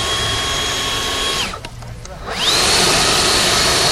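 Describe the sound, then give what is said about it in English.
A battery-powered leaf blower, demonstrated by a maintenance worker in a park in Ojai, gives a loud, steady electric whine at full throttle, briefly dropping to a quieter low setting before spinning back up with a rising pitch sweep. “Maintenance worker Eric Lara is carrying one of the new battery powered leaf blowers in Ojai's Libby Park. He demonstrates it”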